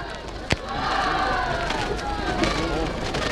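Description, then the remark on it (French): A large crowd cheers and shouts in sustained, loud acclaim as Marcel Cachin rises, a dense wash of voices with a sharp crack near the start, continuing steadily throughout. “Marcel Cachin se lève, salué par de vibrantes acclamations.”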